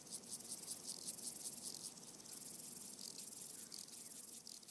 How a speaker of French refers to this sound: Ou bien juste buzzing insects. Des insectes qui bourdonnent. But how? Mais comment tu enregistres un insecte qui bourdonne? Just record them. Tu l'enregistres, c'est tout.